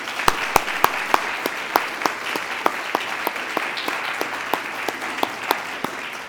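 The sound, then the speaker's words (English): An audience applauds a panel at a Canadian Journalism Foundation event steadily for several seconds, a dense wash of clapping with a few sharp, regular claps standing out on top. No one speaks over it. “And let's have a nice round of applause for all of them.”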